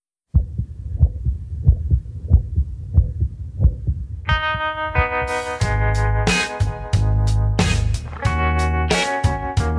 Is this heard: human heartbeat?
yes